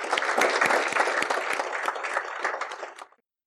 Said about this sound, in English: But in the meantime, give them a quick round of applause because they did a great job.